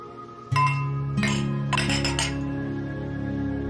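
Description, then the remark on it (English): Wine glasses clink together in a toast, three bright taps about a second apart, each leaving a clear ringing tone that hangs and slowly fades. No one speaks. “We wanted you to help us say goodbye. She stares at him. So cheers.”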